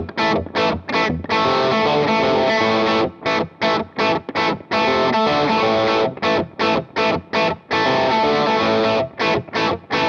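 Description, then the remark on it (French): Heavily distorted electric guitar plays chugging power chords on only three strings in a stop-start rhythm, bursts of sustained crunch broken by short sharp mutes and gaps, loud with no voices. “Voilà, c'est une saleté très contrôlée. C'est-à-dire que doivent résonner uniquement les notes de ces trois cordes-là.”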